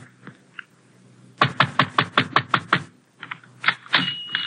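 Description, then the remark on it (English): A rapid series of about a dozen loud, hollow knocks pounds on the wooden door of a small, dark tobacco shop with drawn shades at 603 Via Maggiore, on a narrow street near the waterfront in Trieste, followed by a few more scattered thumps and bumps, with no voices. “The shades are drawn and the shop is dark, but I pound on the door.”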